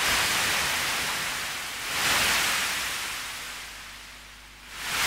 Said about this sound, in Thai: แต่สำหรับมนุษย์นั้นก็คงเชื่อแน่ได้นะครับว่าเสียงคลื่นที่ม้วนตัวซัดฝั่งจะยังคงเป็นมนต์ขลังเรียกร้องสำหรับร่างกายและหัวใจที่ต้องการทะเลอยู่ต่อไปครับ